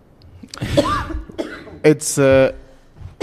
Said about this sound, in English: And then she coughed.